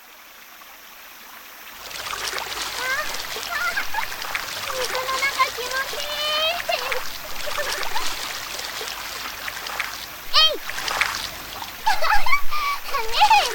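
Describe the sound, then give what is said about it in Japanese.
Steady rushing of river water with frequent splashes, starting after a quiet first two seconds and staying loud; voices and chatter come through over the flowing water. “うん、 よし、私川の方行ってくるね。”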